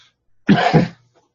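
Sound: cough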